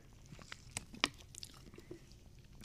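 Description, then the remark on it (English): Quiet mouth sounds of someone sipping a soda: a few sharp wet clicks and small slurps spaced irregularly over soft background, with no talking. “Sorry, I take a sip of my soda.”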